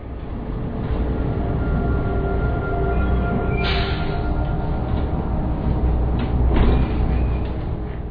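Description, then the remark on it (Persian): A deep, steady engine rumble of a bus approaching from a distance through fog on a freezing cold day, growing slightly louder toward the end as it draws nearer, with no voices. “صدای از دور می آید. بیشک این صدا متعلق به اتوبوس است، اما من چیزی نمی بینم.”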